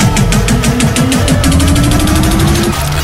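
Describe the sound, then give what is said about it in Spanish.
A motorcycle engine runs loud, its rapid, steady firing pulses throbbing throughout with a rough, rumbling drone and no voices. “Aquí os dejamos con el GG y el ruido de mi moto, obviamente.”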